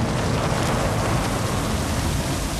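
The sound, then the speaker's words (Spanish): A sudden heavy storm downpour roars steadily, a dense, constant wash of pouring rain and wind with no pauses or talking, loud throughout. “La repentina tormenta comenzó a batirse con toda su fuerza.”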